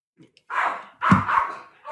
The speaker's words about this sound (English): Dogs! Dogs! Dogs! Dogs! Dogs!